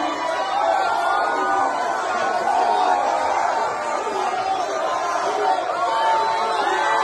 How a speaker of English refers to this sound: And folks, those listening in, if you're listening, there's just people, just loads of folks have their phones up, lights on, screaming for President Trump as he's entering. He's either entering the stadium or he's exiting